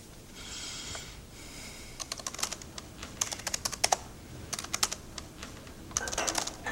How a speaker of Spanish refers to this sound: Se vuelve a girar hacia el ordenador y continúa escribiendo.